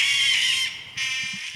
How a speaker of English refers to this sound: Oh, wait, you're playing that over your microphone. I'm playing it over my phone. But there's a lot of horns and a lot of brass coming at you. And I feel like a big elephant is like that. It's they're just like overwhelming.